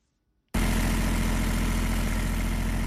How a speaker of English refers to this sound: A machine at Junubi Soap Company in Juba foam soap bars out of palm oil and water-based products.